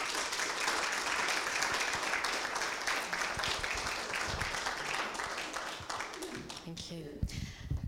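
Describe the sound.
An audience applauds in a dense, steady wash of clapping that holds for several seconds, then thins toward the end, with some voices mixed in.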